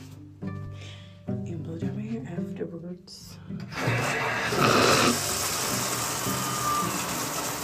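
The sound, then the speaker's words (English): A few seconds of tonal vocal sounds, then shower water starts as someone takes a shower and washes their hair: a steady, loud hiss of spray that runs without pause to the end. “So let's hop into the shower.”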